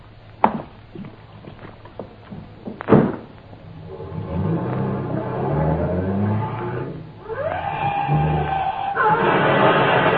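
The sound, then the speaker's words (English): A couple of sharp thumps like a car door, then a car engine starts revving, its pitch climbing as the car accelerates hard before driving off a viaduct, ending in a loud, sustained roar. “The theory is that the victim, in an intoxicated condition, lost control and drove off the viaduct.”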